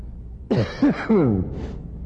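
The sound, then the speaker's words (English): A hoarse fit of coughing: three quick, rough bursts in a row with a throaty, voiced rasp, then a faint breathy exhale in the quiet afterward. “I just want to fight with a cough, but I think it's going to make it anyway.”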